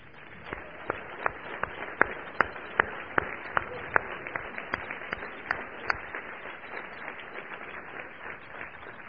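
An audience applauds steadily for several seconds for the veterans in the audience, a dense wash of many hands clapping with a few sharper, louder claps standing out near the start, fading slightly toward the end.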